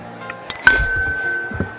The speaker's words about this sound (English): I'm going to cheers again. Cheers. Just because it's 200 episodes.